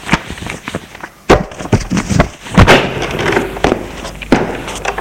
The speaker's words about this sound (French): range ses papiers sur le bureau et les met en pile.